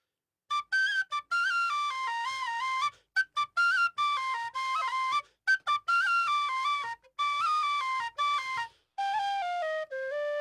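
A tin whistle plays a lively, ornamented melody alone, with quick stepping notes and brief breath gaps between phrases, close and clear with no talking.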